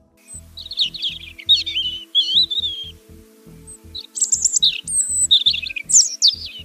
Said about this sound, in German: So tönt ein Rotbrüstli. Das Pfeifen haben wir vielleicht schon mal im Wald oder bei uns im Garten gehört.